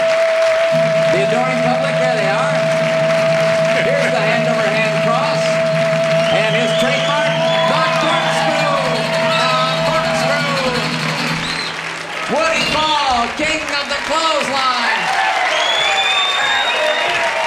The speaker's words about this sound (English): Thank you so very, very much. God bless you for that warm and wonderful applause. I love each and every one of you so much.